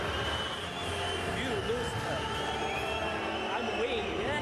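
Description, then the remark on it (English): A large crowd roars with sustained booing after a refusal to shake hands with the champion, Sun Yang: a dense, loud wall of many overlapping voices that holds steady throughout, with no single speaker standing out. “He's now getting booed massively.”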